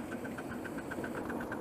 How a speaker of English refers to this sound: And we're going to put water in the boiler while we're running. That's it picked up. Right, so we're now feeding water into the boiler on the move. We are uphill here and a curve, so a little bit of steam pressure.